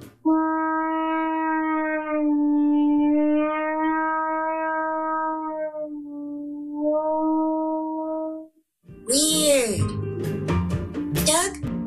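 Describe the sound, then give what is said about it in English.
A French horn, played with the player's hand in the bell, holds a long, mellow note that wavers and dips slightly in pitch for about eight seconds, then after a brief pause a brighter, busier burst of sound follows. “Does the sound change when your hand is in the bell? It changes the sound and the intonation.”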